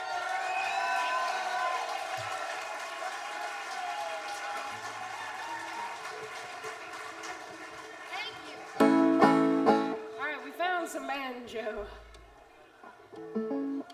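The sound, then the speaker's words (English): An audience claps and cheers to welcome a fiddler from Watertown, Massachusetts, in a steady, dense wash of sound, with voices whooping and calling out over the applause, then swells louder near the end with scattered shouts. “I think if you really clap loud, she might get her fiddle out in a couple of minutes.”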